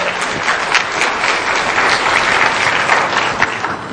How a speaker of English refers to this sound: It's a really good video. Clap for it.